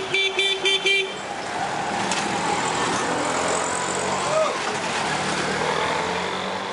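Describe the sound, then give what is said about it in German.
A burst of rapid car horn honks opens, then gives way to a steady, dense wash of city traffic-jam noise with engines rumbling. No one speaks. “In vielen Städten dominiert der Autoverkehr und die Umweltbelastung ist erheblich.”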